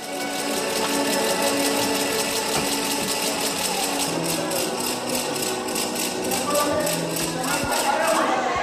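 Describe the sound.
A Jewish Purim ratchet noisemaker, held by an 80-year-old Holocaust survivor standing in a concert audience at the start of the Siegfried Idyll, spins in a fast, steady stream of sharp wooden clicks, loud and continuous for several seconds over a murmur of voices and tonal background sound.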